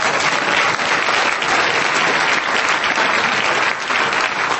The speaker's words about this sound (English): And I want to thank all my friends that came to listen to me speak from back home. Give yourselves a hand back there.